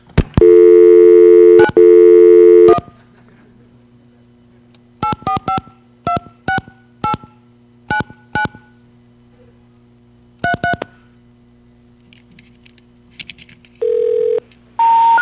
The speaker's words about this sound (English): While we're here, let me go dial another phone number for you.